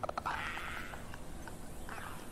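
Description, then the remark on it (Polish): A clicker creature in a video game gives a few sharp rapid clicks, then a raspy, throaty rattle that fades and returns briefly. It is fairly faint, with no talking. “Nie, to jest ten. To jest klikacz.”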